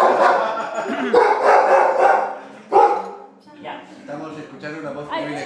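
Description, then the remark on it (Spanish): A dog barks loudly and insistently in several drawn-out bursts at a house during New Year's Eve preparations, its harsh yelps running together before giving way to shorter, higher whining barks. “Son guau preparativos.”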